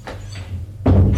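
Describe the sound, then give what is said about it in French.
A man opens an office door after a secretary presses a button to let him in, a single solid clunk near the end, preceded by a low background rumble and a few faint soft bumps. “Il va vers la porte du bureau, il ouvre.”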